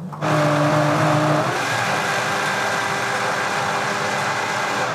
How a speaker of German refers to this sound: Also das ist jetzt schon ziemlich dick und der Vitamix wird sich gerade ein bisschen schwer. Ich mache jetzt gerade nochmal.